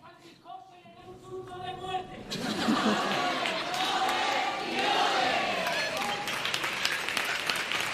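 A drawn-out shout rings from the stalls at the Falla theatre during a performance by the comparsa La Guasona, answered by the comparsa members' histrionic laughter; then loud, dense applause and crowd noise swell up and carry on steadily to the end.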